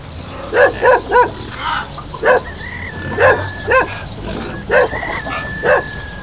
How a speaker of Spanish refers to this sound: En la huerta del señor Manduca se encontró con el perro Fiel.